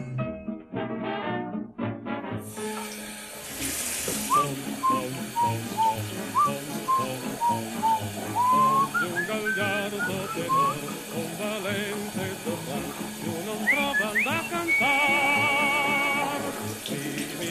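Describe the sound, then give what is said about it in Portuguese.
A man whistles while shaving, a wandering tune of short, rising and falling notes over the steady rush of a running tap, the melody climbing higher and holding a long note near the end. “¿Recordas cómo asubiaba a barbearse?”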